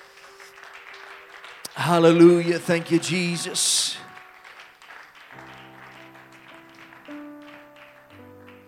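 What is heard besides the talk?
audience applauding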